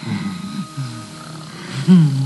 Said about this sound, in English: Oh, she's purring.